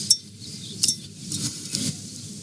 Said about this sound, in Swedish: Då ser jag på att pila av den här lilla vaxade korken.